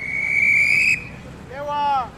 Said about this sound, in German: Ein Polizist regelt mit seiner Trillerpfeife den regen Verkehr.